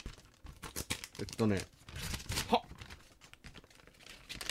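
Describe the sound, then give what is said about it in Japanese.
Paper crinkles and rips in short bursts as an envelope holding a second letter is torn open, with people talking and reacting throughout. “今開けるよ、 うん、嘘やん。”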